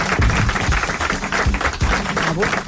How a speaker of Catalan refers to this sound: Un aplaudiment per mi, gràcies.